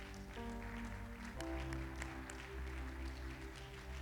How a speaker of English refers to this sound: Clap your hands like you really mean it in the name of the Lord.